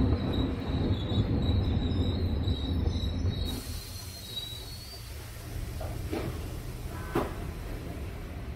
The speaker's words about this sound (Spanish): el ferrocarril de Roma a Giardinetti es un tren urbano que se relaciona directamente con el tráfico rodado